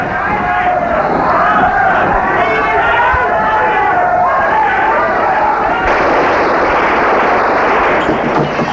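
A dense, loud crowd of men yells and screams continuously in a street, with sharp bangs of gunfire cracking through the din. The chaotic noise stays intense throughout and grows rougher and more cluttered toward the end.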